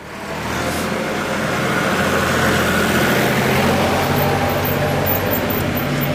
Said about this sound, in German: Oh, kommt da ein Traktor.